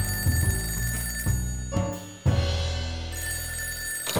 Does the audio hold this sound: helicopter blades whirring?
no